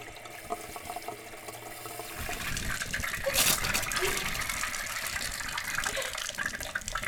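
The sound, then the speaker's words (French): Water rushes steadily, as if from a tap filling a bath or running in a shower, starting quieter and swelling into a louder continuous gush after a couple of seconds. Unbroken. “Après cela, versez le savon dans la douche chaude et incorporez au fur et à mesure le mélange avec la première partie de sommeil.”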